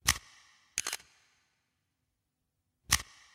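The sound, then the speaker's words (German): Sharp mechanical clicks of the shutter of a small Minox subminiature photo camera: two quick clicks close together, a pause of about two seconds, then one more, crisp with no voices. “Das ist eine Fotokamera, aber nicht irgendeine, sondern eine Minox-Kamera.”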